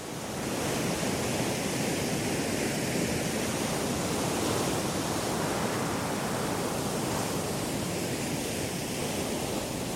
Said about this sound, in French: L'étrave, c'est l'avant du bateau. C'est ce qui fend la mer.